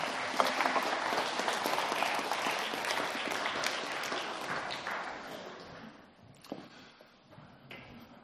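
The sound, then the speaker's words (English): A round of applause from a crowd for a group of pie eaters, loud and sustained with dense clapping for about six seconds, then thinning out and fading to scattered claps near the end. “Well, a round of applause for my pie eaters.”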